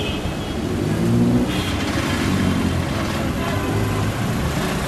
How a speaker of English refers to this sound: Yes, traffic.